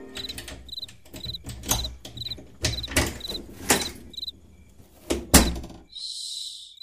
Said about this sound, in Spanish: Cierra suave la puerta, vos. Vas a despertar a los hipotes.